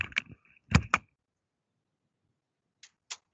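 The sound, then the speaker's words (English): A studio door is pushed shut: a quick rattle of the handle, then two solid thumps as it meets the frame, followed after a pause by two faint latch clicks. “I'm going to just close my door.”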